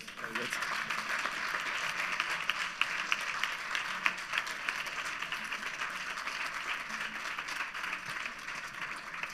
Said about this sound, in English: Well, thank you very much, and I guess that's your applause.